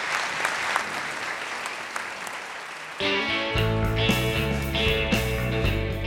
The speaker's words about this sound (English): And please, a warm round of applause for Arthi Shahani.